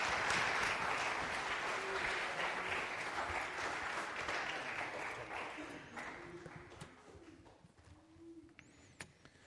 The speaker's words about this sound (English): All right, good. Everybody give them a round of applause, and I'll take the...